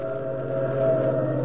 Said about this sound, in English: Oh, he's just slowing down for that train. But he only slowed down for a second. Look at him go. I know what he's doing. He's trying to beat that train to the crossing.